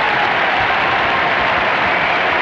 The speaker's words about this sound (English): Katarina Witt, two-time gold medalist, and a great reception from the crowd.